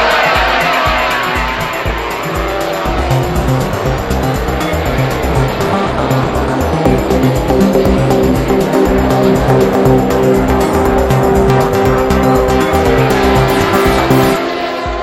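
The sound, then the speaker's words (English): A loud pack of racing motorcycles roars away from the start, engines screaming and climbing in pitch as they accelerate together, a dense continuous wall of engine noise for about fifteen seconds. “The lights are on red. We're away.”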